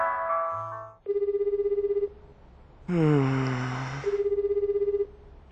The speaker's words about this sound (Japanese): 携帯？